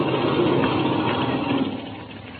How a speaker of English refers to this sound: Good. Then I'll cut the engine.